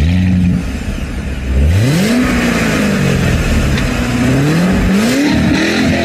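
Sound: sports car engine revving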